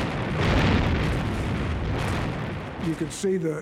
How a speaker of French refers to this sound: On voyait les salves et les obus tirés par les bateaux fendre l'air comme des bestioles lumineuses. On voyait les navires exploser. On ne savait pas s'ils étaient américains ou japonais.